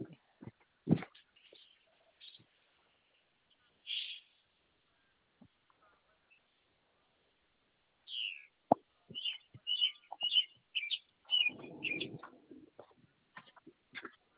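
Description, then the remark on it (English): A bird calls in scattered bursts, some notes oddly voice-like and others sharp chirps and tweets, growing busier toward the end, fairly clear against a quiet background. “That bird sounds like a real person, and then it sounds like a bird.”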